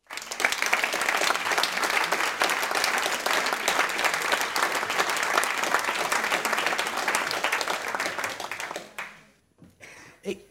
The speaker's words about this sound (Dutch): Ik wil een hartelijk applaus voor Ted van Lieshout.